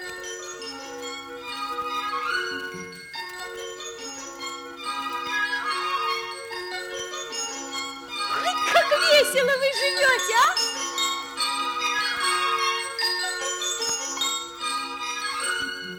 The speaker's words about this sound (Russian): Смотрите, смотрите, сколько колокольчиков! И все сюда бегут. Ой, как весело!